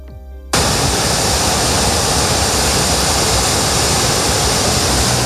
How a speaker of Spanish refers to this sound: Es el sonido del río Manzanares a su paso por el puente de los franceses. Nadie en la zona recuerda algo igual. Nunca habían visto tanto caudal en un río que ha quintuplicado su media histórica solo en el mes de marzo.